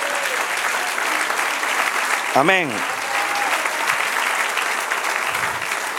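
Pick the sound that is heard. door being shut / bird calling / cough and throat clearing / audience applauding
audience applauding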